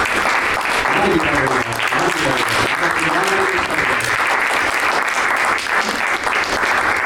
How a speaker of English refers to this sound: All right, everybody, please give another huge round of applause for the panel and the moderators.